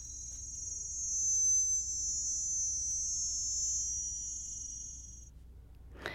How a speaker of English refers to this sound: Now, in this first clip, we're hearing the recording of a cicada from the mountains very far away in northern Thailand. This is something, Chris, that you recorded in 2019. So we're hearing it as is and then slowed down.